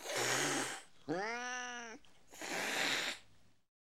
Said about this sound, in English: This kitten is black and white. It isn't happy. It's angry.